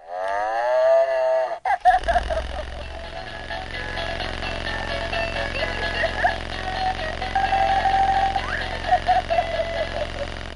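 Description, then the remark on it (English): A rubberized, ball-shaped toy cow gives a short, bending electronic moo, then a loud, buzzy, tinny jingle plays on for several seconds, steady. “Then there's this rubberized ball-shaped cow.”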